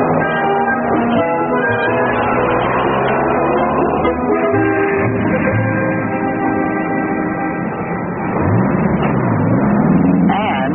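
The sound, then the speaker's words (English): Heavy truck engines rumble and rev steadily throughout at a shipping department loading dock, where goods are loaded onto the trucks as they come in, their pitch rising and falling near the end, with a busy, muffled, loading-yard clatter around them. “Stuff loaded on the trucks as fast as they come in.”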